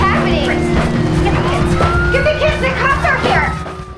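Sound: police car sirens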